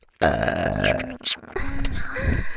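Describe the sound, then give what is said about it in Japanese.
A long, loud burp with a deep rumbling tone, briefly breaking off before continuing in a second drawn-out stretch. “お兄さん、お兄さんのような素敵な方にゲップを聞いてもらえて幸せですよ。”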